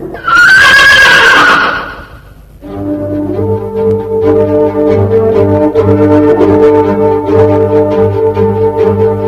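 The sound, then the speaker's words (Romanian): A loud horse whinnies for about two seconds, rising and then trailing off. Steady, droning music with faint rhythmic taps takes over and continues to the end. “De teamă, Florea dete pinten la cal.”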